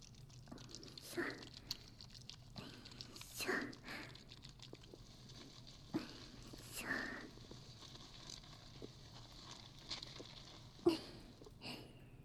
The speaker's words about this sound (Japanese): では、まずは髪の毛ゴシゴシしていきましょうか。手で混ぜ混ぜして泡を作ってますので、そのままで。